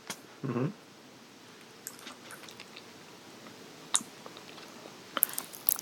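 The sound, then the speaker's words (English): Quiet mouth sounds of someone chewing and swallowing food: a soft low gulp near the start, then sparse wet clicks and small crunches scattered over a hushed background. “You still hear it. But I swallowed it all.”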